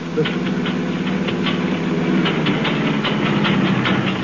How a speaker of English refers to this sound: There's something wrong with the engine. It's packing up. Oh, no. Of all times to have a breakdown.